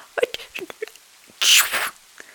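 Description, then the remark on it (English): A few quick, sharp breaths build up, then one loud, forceful sneeze bursts out, its hissy explosion trailing off into quiet. “Leo had sneezed so hard that dough stuck to his mustache and flour covered the floor around him.”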